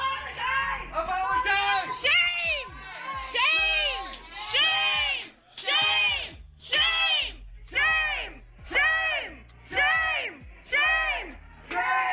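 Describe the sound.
A crowd of protesters against the U.S. border policy separating children from their families chants in unison at an official while she eats, loud, with repeated rhythmic shouted phrases roughly every second, voices overlapping into a steady, insistent cadence.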